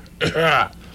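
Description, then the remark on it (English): A single throat clearing, a rough, breathy burst that turns into a short voiced rumble and stops after about half a second, heard on its own. “Well, let me clear my throat here.”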